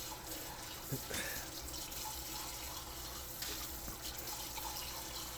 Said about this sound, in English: I can't right now. I'm doing dishes.